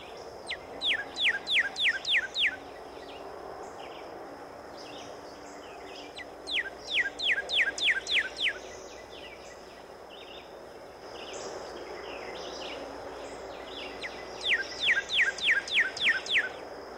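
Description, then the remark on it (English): Song of a cardinal: three bouts of rapid, repeated clear whistled notes sliding downward, each phrase about two seconds long with pauses between, against a quiet outdoor background. “Another bird in which the male is almost all red is the cardinal.”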